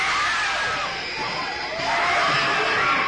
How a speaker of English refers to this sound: This is not a trick. The screams you are hearing are the actual audience reaction to a sneak preview of Visiting Hours, a film so frightening you may never recover.